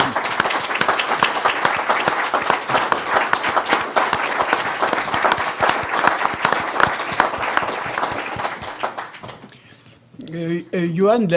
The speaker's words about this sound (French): Et par conséquent, je voudrais d'abord lui dire merci et que nous lui disions merci et que nous l'applaudissions pour commencer.